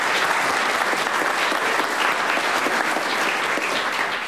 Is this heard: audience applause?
yes